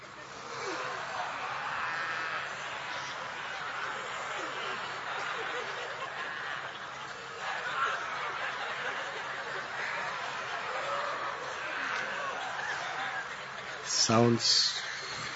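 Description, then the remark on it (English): A crowd of people imitate lion roars together, a sustained wash of overlapping growling voices mixed with laughter, ending in a brief louder burst. “… would imitate the lion.”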